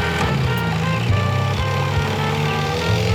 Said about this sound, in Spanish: Estos locos, ¿qué les pasa? Van a pasar la lancha por encima.